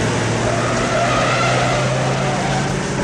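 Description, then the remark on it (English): Two fairly slow cars, one of them a 308, race along Sunset Boulevard at speed with tires squealing, a loud, continuous roar of engines and screeching rubber filling the whole stretch with no voices. “It's a great scene with two fairly slow cars.”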